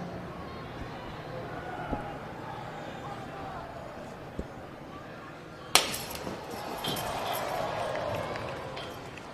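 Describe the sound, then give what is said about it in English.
One loud, sharp slap cracks through a steady crowd murmur at an ECW wrestling event, after which the crowd noise swells and grows more excited. A couple of faint clicks come earlier. “Did you hear that slap?”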